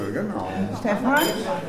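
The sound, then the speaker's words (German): Glasses clink together in a toast, a few bright chimes, with a murmur of voices and table clatter around them. “Bitte die Gläser nicht kaputt machen dabei.”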